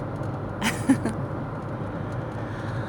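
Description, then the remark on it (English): Steady, low rumble of road noise inside a moving car on a road trip, continuous throughout, with a brief soft knock or rustle near the start. “We've been in the car for hours now and we still have like 3 hours to go, but it's gonna be so pretty there.”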